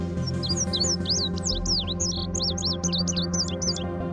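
An indigo bunting sings a rapid series of high, bright chirps and sweeping notes, many paired or doubled, run together in a lively song over a steady low hum.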